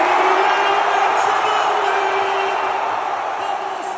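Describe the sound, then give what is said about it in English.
A packed crowd at TD Garden in Boston roars in sustained, loud cheering as the clock strikes zero on the Celtics' Game 5 NBA Finals win over the Dallas Mavericks, a dense wall of voices and whoops that holds steady for several seconds before easing slightly. “And just as the clock struck zero, the crowd at TD Garden in Boston erupted.”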